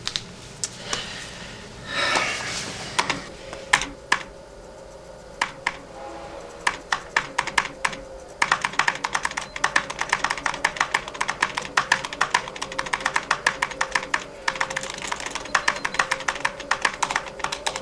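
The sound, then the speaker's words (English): Rapid typing on a computer keyboard, a dense stream of sharp clicking keystrokes that starts sparse and builds into fast, continuous clatter, with no talking. “Just use the keyboard.”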